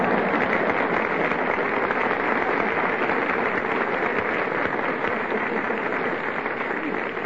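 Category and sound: crowd, studio audience applauding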